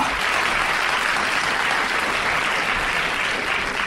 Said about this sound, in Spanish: Cada semana recibimos a una persona destacada en los medios de comunicación. Recibimos con un fuerte aplauso a...